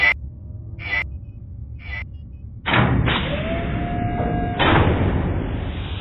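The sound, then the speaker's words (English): A door is shut: three short scraping sounds, then a heavy thud, a drawn-out creaking whine, and a final solid thump. No one speaks. “Get out and shut the bloody door”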